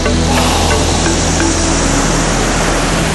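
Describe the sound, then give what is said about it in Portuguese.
Indian Ocean waves wash against the shore at Aliao Shoal in a steady, loud roar of surf, a continuous rushing hiss with no distinct breaks and no voices. “Estamos de frente para o Oceano Índico.”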